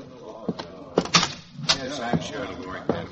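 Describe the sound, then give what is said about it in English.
A back door is opened and shut, with a few sharp wooden clunks and a rattle of the latch over indistinct murmuring voices. “You go out the back door.”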